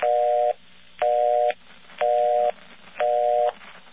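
A mechanical telephone busy signal: four half-second tone bursts alternating with equal gaps, each burst starting and ending with a sharp click, loud and alone with faint background noise.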